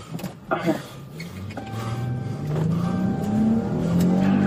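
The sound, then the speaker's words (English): A car engine cranks to life after a few clunks, then revs and climbs steadily in pitch as the vehicle pulls away, loud throughout. “The name is start the car. Go.”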